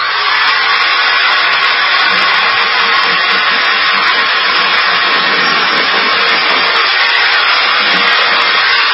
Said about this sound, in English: I figure we just go ahead and cut right to the chase with the power drill